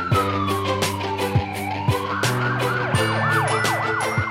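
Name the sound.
ambulance siren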